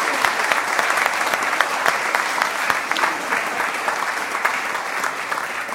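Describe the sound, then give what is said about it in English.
An audience applauds the people standing at the front in crowns and with flags. It is a steady, dense, even patter of many hands clapping at once, sustained at moderate loudness throughout with no voices standing out. “Should we give them all a clap for doing so well?”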